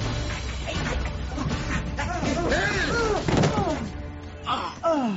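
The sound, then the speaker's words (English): Heavy, repeated banging on a gate by people who look like Hebrews: a string of loud booming thuds, with agitated voices rising and falling through the knocking. “They were banging on the gate.”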